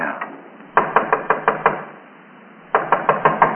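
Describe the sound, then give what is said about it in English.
Two bursts of sharp, firm knocking on an outside door by police, five quick raps, a brief pause, then five more, fairly loud with no voices. “Someone's trying the outside door.”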